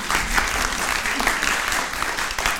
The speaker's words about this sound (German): Applaus.